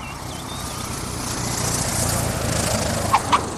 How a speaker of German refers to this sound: Wenig später landete ein kleines Flugzeug am Rande der Plantage.